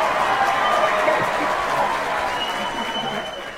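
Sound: applause sound effect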